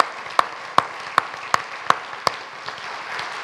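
Audience applause for the recital participants: six sharp, evenly spaced claps stand out over a steady, hissy wash of clapping that continues and thins out toward the end. No one speaks.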